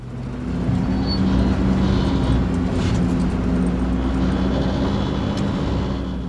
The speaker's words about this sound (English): I skidded up and down the sand hills in a truck